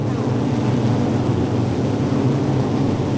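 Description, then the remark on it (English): A steady, dense drone of many honeybees buzzing together, a low humming swarm sound that holds constant without pauses and with no voices. “Creatures of the natural world, like the honeybees we're hearing, respond with exquisite sensitivity to the intensity and daily duration of the sun's light.”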